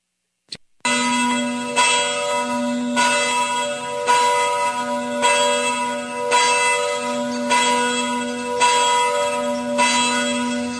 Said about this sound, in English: We're playing the bells of liberty, liberty bells in the Savage Nation